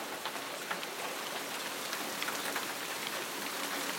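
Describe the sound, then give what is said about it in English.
Pea-sized hailstones pelt down hard in a dense, steady clatter, countless sharp ticks and taps layered over a continuous hiss, with no voices present. “It's still hail.”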